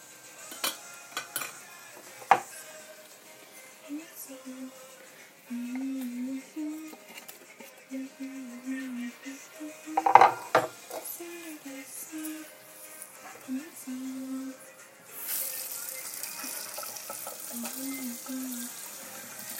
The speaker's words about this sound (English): Doing the dishes actually now because the meat is still cooking and I'm done chopping up stuff.